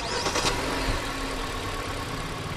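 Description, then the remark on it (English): A rented Hyundai car engine turns over and catches quickly outside in Hialeah, Florida, a brief starter whir followed by a steady, smooth idle hum, with no talking. “Since this is radio, we decided to go outside and compare the sound of both cars starting up. Okay, this is my car.”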